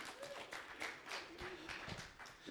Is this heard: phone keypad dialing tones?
no